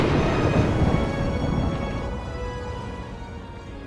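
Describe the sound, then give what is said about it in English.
A deep rumble of thunder rolls in loudly over a steady wash of rain noise, then slowly fades away as the storm keeps hissing in the background. “You better hold on tight, because the next stop on this train, well, that's this crazy storm we have to get through.”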